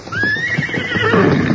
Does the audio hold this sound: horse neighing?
yes